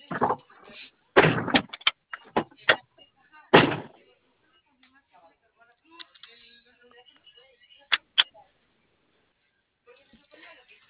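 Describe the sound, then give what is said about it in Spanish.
Several loud, firm thuds of vehicle doors being shut, a cluster early on and two more later, with quiet background murmurs between them. “Vale, ¿tiene bien cerradas sus puertas, compañero? Porque aquí tengo bloqueo de por apertura de puerta.”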